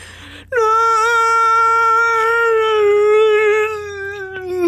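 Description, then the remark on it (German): A single long, loud howl from somewhere deep within the station rises abruptly and holds a steady, slightly wavering pitch for about four seconds before sagging and fading at the end, with no voices present. “Irgendwo aus der Tiefe der Station kommt ein Aufheulen.”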